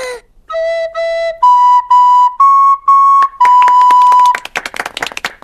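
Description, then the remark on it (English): A recorder plays a simple tune of short, clear, piping notes that step upward in pitch, ending on a long held note before breaking into a burst of scrappy, noisy sounds. “I'm going to play the recorder.”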